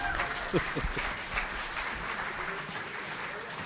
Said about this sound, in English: I'm not sure if they were clapping you to get off or clapping me to come on.